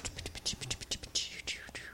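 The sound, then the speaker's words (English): Lusa, a female pet, licking her wrists intensely: a rapid, steady run of wet, smacking slurps, about four or five per second, soft and hissy, with no talking over it. “No, she likes to lick her wrists.”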